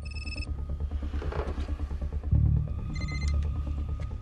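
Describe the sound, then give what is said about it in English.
A cell phone on a briefing room table rings twice, each short electronic trill bright, separated by a pause of about two and a half seconds, over a steady low rumble with no voices. “cell phone rings on the briefing room table.”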